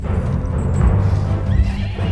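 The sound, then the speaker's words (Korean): A horse whinnies loudly as it tries to throw off its rider, who clings on by the reins, while hooves clip-clop and thud in an irregular, agitated rhythm, with some rustling and scuffling throughout. “말은 사람을 떨어뜨리려 하고 사람은 절대 떨어지지 않으려 버티는 상황.”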